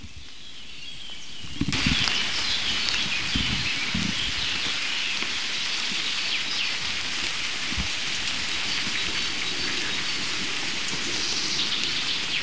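Heavy rain pours down steadily, a dense hissing wash that begins abruptly and stays loud and constant, with occasional low rumbles and drops spattering on surfaces.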